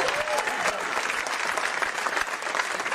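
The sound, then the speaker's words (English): Sustained applause from a large audience at a talk by Les Brown, a dense, steady wash of clapping that fills the whole stretch at an even, fairly loud level, with no one speaking over it. “Let's give Johnny a tremendous round of applause.”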